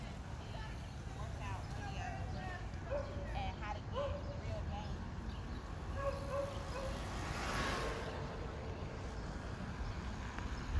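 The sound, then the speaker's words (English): A dog barks a few times, short yelping barks scattered over steady outdoor rumble, with faint voices in the background. “That dog is thanking the workers.”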